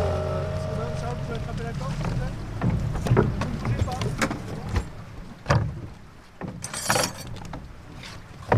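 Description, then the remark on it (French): Ambience aboard a traditional flat-bottomed Loire river boat, a cabin-topped toue used as a professional fishing boat with a lift net about 4 metres square at the bow: a low droning hum at first, then water sloshing, hollow knocks and splashes against the hull, with faint wind and indistinct voices in the background. “on est sur une toue un peu particulière ici. Ça, c'est une toue cabanée, mais c'est une toue d'un bateau de pêche en fait, professionnel qui est équipé à l'avant d'un carrelet d'environ 4 mètres de côté.”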